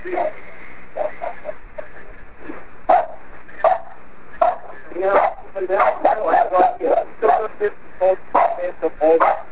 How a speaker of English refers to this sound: Yeah, I mean, this was really a problem because CJ was barking over everything.